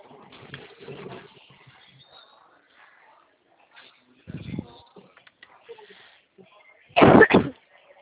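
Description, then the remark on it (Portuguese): A short, harsh cough from a bad, lingering cough comes first, then a louder double cough toward the end, with faint murmured talk at the start and quiet gaps between. “Desculpa, tô com uma tosse horrível que não passa.”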